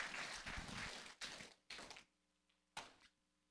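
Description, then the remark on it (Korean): A group applauds to give glory to God after a prayer, in a dense burst of clapping for about a second, then it breaks into a few short, scattered bursts of claps before fading to quiet room noise. “우리 하나님께 영광의 박수 올리겠습니다.”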